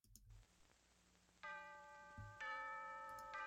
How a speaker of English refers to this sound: You know it's a serious movie because they start with bells in the trailer. That is serious.